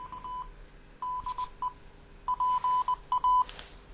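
A telephone rings with an electronic tone, short high beeps grouped into quick repeated bursts with brief pauses between. It is fairly clear, and no one speaks.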